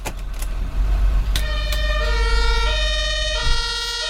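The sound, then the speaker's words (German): A fire engine siren kicks in over a deep, steady engine rumble as a fire crew sets off at 20:25 after a fire alarm at the Herzogin Anna Amalia Library, blaring a loud two-tone wail that alternates between a higher and lower pitch. No one speaks. “In der Bibliothek löst die Brandmeldeanlage einen Alarm aus und der kommt in der Leitstelle an. Der Löschzug fährt los.”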